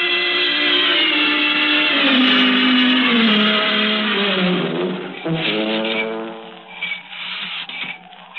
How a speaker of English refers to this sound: Oh, listen, that's him. That's his horn.